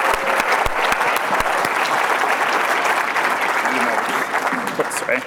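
An audience applauds steadily after an on-stage game, a dense wash of many hands clapping, with a few sharp louder claps standing out early on before the sound eases slightly toward the end.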